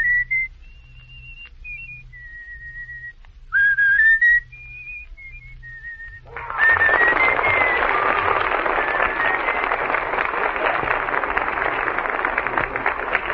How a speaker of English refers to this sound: Well, can you whistle that one for me, please?